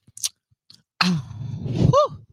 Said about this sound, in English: Sip a Merlot. Hold on. Sip a Merlot. Okay.